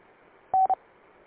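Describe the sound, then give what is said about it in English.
A radio roger beep after a transmission made through the W3HF-R conference server: a steady mid-pitched tone followed quickly by a shorter second beep, heard over faint static hiss with no talking. “And there's a strange beep after every time you transmit, so it probably has something to do with whatever system you're using.”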